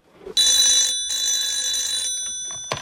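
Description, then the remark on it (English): A telephone rings loudly in two bright, electronic bursts, a short one followed by a longer one, with no one speaking. “tentatively picks up the phone.”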